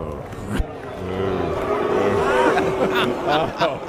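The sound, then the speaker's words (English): A crowd at a golf event boos, many voices blending into a long, low, drawn-out jeer that swells and holds for a few seconds over a murmur of chatter. “That boo was well deserved.”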